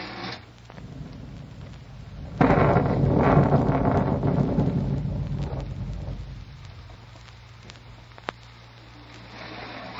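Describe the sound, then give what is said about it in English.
A heavy rainstorm, which has been falling steadily for three hours, hisses steadily, then surges abruptly into a loud, rumbling roar for several seconds before easing back to a dense, constant downpour. No one speaks. “Some rain, huh? It's been going steady for 3 hours.”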